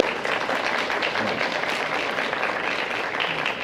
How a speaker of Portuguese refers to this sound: E aí sim, salva de palmas para a sua esposa, para o bebê e para a Vossa Excelência.